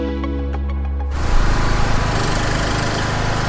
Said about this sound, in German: Unangenehmes Geräusch, finde ich. Könnte ein Trecker sein, aber es ist ein Stromgenerator. Und dieses Geräusch hört man gerade an vielen Orten in der Ukraine, zum Beispiel vor Cafés, vor Büros oder vor Geschäften.